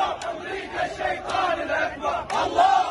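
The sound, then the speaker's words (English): A massive pro-Hamas crowd, many of them young men, heads toward the U.S. Embassy in Baghdad, Iraq, chanting "America is the greatest devil" in unison outdoors: a dense wall of many voices with rising cries and sharp bursts, loud and continuous throughout. “Here's a massive pro-Hamas crowd headed toward the U.S. Embassy in Baghdad.”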